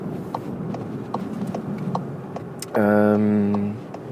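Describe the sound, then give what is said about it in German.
Steady low rumble inside a moving car, with a regular ticking like a turn signal and a loud, sustained horn honk lasting about a second near the end. “Ich weiß nicht, ob ihr es merkt, ich bin gerade im Auto unterwegs, aber da kann ich natürlich auch mal ganz gut so einen Podcast aufnehmen.”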